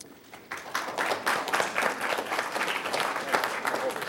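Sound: audience applause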